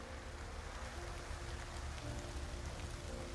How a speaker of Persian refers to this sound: این صدای بارون، همین صدا، بو بو، همین بویی که الان، بوی نم بارونی که میاد، این سرسبزی، این برگایی که میفته